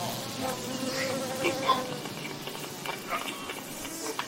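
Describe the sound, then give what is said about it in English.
A dense, continuous drone of many buzzing insects, like a swarm, with overlapping whines rising and falling steadily throughout and no voices. “There's a lot of buzzing going on. Oh, yeah. That's a whole swarm of busy buzzing bubble bugs.”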